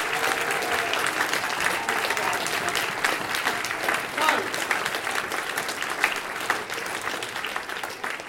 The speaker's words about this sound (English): So, all our performers have been brilliant. So please, can we give them a huge round of applause?